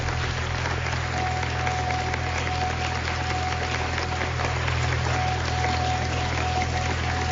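applause

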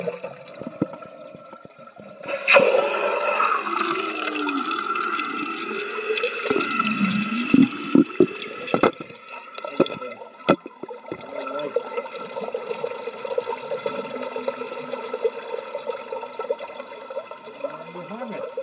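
toilet flushing

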